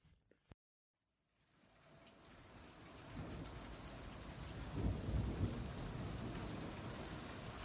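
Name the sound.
rain falling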